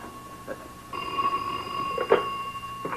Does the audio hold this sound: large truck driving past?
no